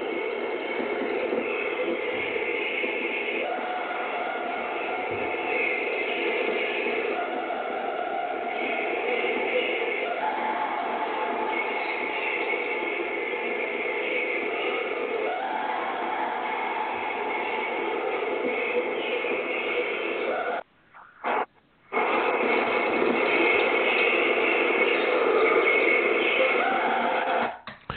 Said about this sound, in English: and it was recorded on a macro cassette, so the quality is not really good. And you can hear birds and so forth, but you can hear these distinctive screams.